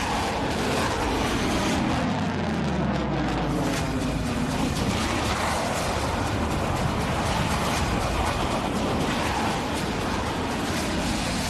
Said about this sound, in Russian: Машина заезжает на стартовую позицию, наводится и происходит пуск. После пуска у нас есть 2 минуты, чтобы свернуться и оставить позицию.